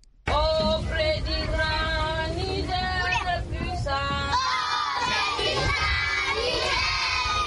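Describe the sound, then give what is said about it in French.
A large group of schoolchildren at the school at the entrance of the town of Bosso, Niger, chant loudly in unison as they recite their lessons, their voices rising and falling together in a sustained, sing-song recitation that fills the whole stretch, energetic. “À l'entrée de la ville de Bosso, impossible de rater l'école ni les cris des enfants qui récitent leurs leçons.”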